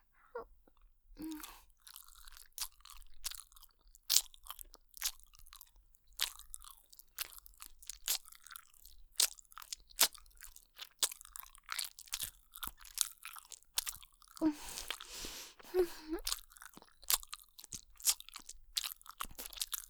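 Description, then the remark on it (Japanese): Wet chewing of a banana in the mouth, with a steady run of sticky smacks and squelches for about twenty seconds, growing busier toward the end, with no talking. “それじゃあまずは、このバナナを、現役 JK の私が、お口でぐちゅぐちゅと咀嚼して差し上げますわね。”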